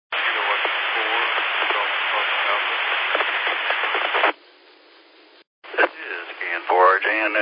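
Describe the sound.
During an amateur radio net (2 Minute Net), a faint voice from the last calling station struggles through a loud wash of radio static for several seconds, then the hiss drops, cuts out briefly, and a clearer narrowband radio voice returns.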